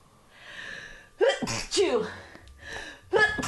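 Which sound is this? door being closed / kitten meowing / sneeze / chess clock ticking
sneeze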